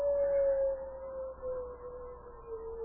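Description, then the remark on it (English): A single long, sustained wolf howl in the wilderness holds a steady pitch that slowly sinks, drawn out across the whole stretch with a faint low rumble beneath it and no voices. “Those wolves know we're going to die. They howl like that when death's at hand.”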